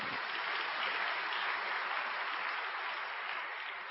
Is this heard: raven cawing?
no